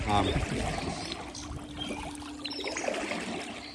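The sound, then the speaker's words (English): A small stream carrying colder water flows steadily in, a continuous soft rushing and trickling of water. A voice is briefly heard near the start. “This little stream coming in behind us, that's the one that we looked at on the map.”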